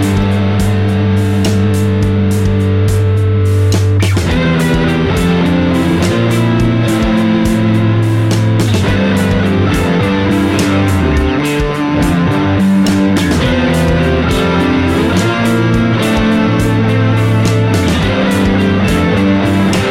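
An electric instrument played through a KMA Worm 2 effects pedal, the only pedal in the chain, into a Neural DSP Corey Wong clean amp preset in a DAW with no post EQ, reverb or delay, producing a thick, fuzzy, sustained tone with shifting notes and chord changes, loud and continuous with no talking.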